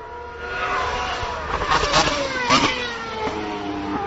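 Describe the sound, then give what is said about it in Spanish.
A Lotus Formula 1 car with a Renault engine revs with a rising and falling harmonic whine, punctuated by a few sharp exhaust pops and crackles midway through. No voices. “vamos a escuchar un coche que no está tan evolucionado y es el Lotus”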